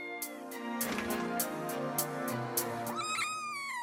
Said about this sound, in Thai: ลูกแมวน้อยเคียนูตัวนี้ส่งเสียงเมี้ยวเมี้ยวอยู่เป็นอันดับ3ครับ